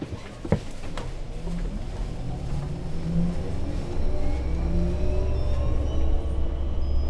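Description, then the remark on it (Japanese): A bus pulls away from a stop and drives on toward the next stop, Higashi-Komatsugawa 1-chome, heard from inside: a steady low engine rumble with rising and falling gear whine as it accelerates, plus a sharp clunk near the start. “発車しますのでお捕まりください。危険ですので車内の移動はおやめください。”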